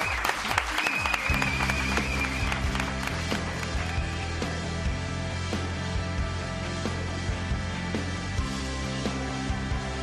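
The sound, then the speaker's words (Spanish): Sustained applause from a large crowd, dense and steady clapping filling the whole stretch, with a low musical or ambient hum underneath and no clear speech. “Es que te tengo que aplaudir. ¡Bravo! ¡Bravo!”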